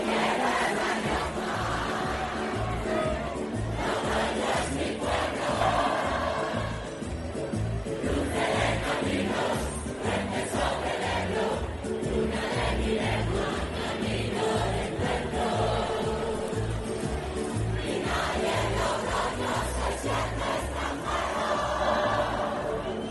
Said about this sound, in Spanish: San Mateo está, por lo tanto, en marcha y Logroño canta su himno a voz en grito. Este era uno de los momentos más emocionantes que se han vivido en la plaza del Ayuntamiento.